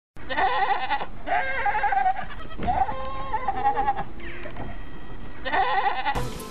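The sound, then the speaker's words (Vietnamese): Several goats bleat in close succession, loud nasal calls with wavering harmonics, one after another with short gaps, from a herd of goats in a pen beneath a hayloft. No one speaks. “Chúng tôi ngủ trên giàn gác chứa cỏ khô và bên dưới là cái chuồng của một đàn dê.”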